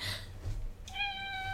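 A single cat meows clearly, a drawn-out tonal cry that starts after a short pause and holds steady to the end, over a low background rumble.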